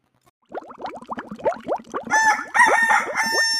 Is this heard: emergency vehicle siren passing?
no